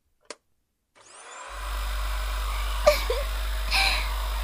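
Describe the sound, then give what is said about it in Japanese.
After a brief click, a vacuum cleaner switches on and spins up into a steady, loud whirring drone with a deep low hum. A few scraping or sucking bumps rise over the constant roar. “ほーら、ヒーロー君の理性や自我も全部掃除機の中に吸い込まれていきますよ。”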